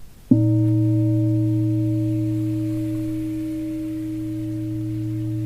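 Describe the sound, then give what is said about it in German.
A single gong stroke blooms suddenly into a deep, steady hum with a few clear overtones, sustaining and fading only slightly over several seconds, with no voices. “Und dann klingt der Gong.”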